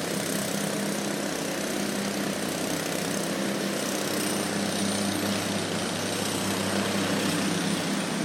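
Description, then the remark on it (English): Loud, steady mechanical roar of construction machinery running continuously at construction work under the Cass Bridge in Detroit, a dense engine drone with a low hum and a faint metallic rattle throughout, no voices. “I'm walking by some construction under the Cass Bridge here, or whatever this bridge is called on Cass.”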